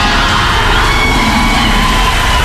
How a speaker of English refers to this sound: And you can hear the roar from the crowd.